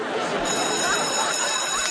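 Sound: school bell ringing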